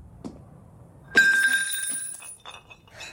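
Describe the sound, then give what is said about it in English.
A glass jar of coins falls to the floor with a sharp clink, spilling coins, and rings out in a bright, sustained tone, followed by a few softer, irregular clinks as it rocks back and forth and settles. “She turns quickly to see a fallen jar of spilled coins rocking back and forth on the floor.”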